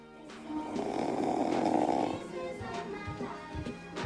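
A man asleep under a bed snores heavily, one long rasping breath swelling for about two seconds before settling into softer, rougher snorts and breathing. Fairly loud, with no talking.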